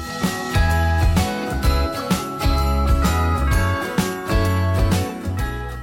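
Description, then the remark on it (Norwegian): Bright jingling bells shake in a steady rhythm over a full musical backing with deep bass notes and sustained tones, fairly loud throughout, with no one talking. “Kan du ikke klirre litt? Med I bjelle.”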